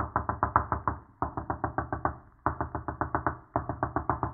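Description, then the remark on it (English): Rapid, insistent knocking on a door, delivered in four quick bursts of about seven or eight raps each with brief pauses between, loud with no voices. “Well, I'll try this door.”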